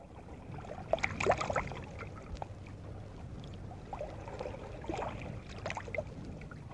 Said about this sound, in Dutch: Water? Ja, natuurlijk. Maar het is de exacte wedersamenstelling van het historisch bad in de Theems, waar Edward, Prince of Wales, Lily Langtry ontmoet.